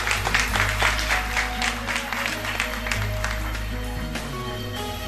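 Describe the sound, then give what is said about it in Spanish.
A crowd applauds warmly, dense steady clapping with scattered sharper claps over a low rumbling hum, sustained for several seconds at a fairly loud, even level. “¡Eso! Un aplauso caluroso, ¿eh?”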